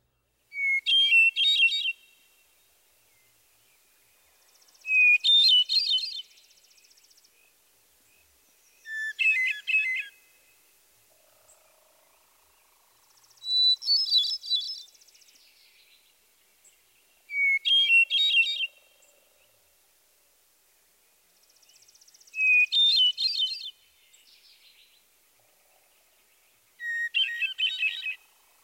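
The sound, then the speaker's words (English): A hermit thrush sings seven separate phrases, one every few seconds. Each opens on a single low, held introductory note and breaks into higher, fluttering, flute-like tremolo trills, the pitch varying considerably. Clear, with quiet pauses between phrases. “Listen again to the Hermit Thrush's song with its single, low introductory note and higher tremolo-like phrases.”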